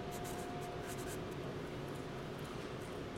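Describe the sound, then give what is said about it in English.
A Sharpie marker squeaks and scratches across paper in a few quick strokes, making marks for a camera to focus on, followed by a steady low hum of room noise with no one speaking. “I'm gonna make a few marks just so it has something to focus on.”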